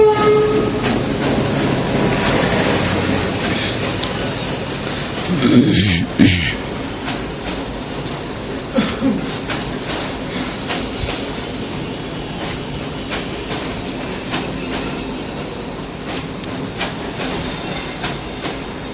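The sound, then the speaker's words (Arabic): A second train approaches and rumbles by with a steady, dense roar and rhythmic clattering of wheels on rails, a brief horn-like swell early on, continuing loudly throughout with no talking. “ده شوف في قطر تاني هو جاي.”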